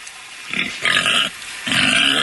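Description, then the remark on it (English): A pig lets out three harsh, noisy squeals and grunts in quick succession: a short one, then two longer, louder bursts, with no talking. “pulled up some pig sounds, because when you say you sound like a pig, pigs make a bunch of different noises”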